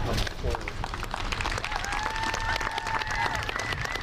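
audience applause and cheering

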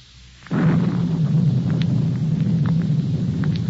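thunderstorm with rumbling thunder

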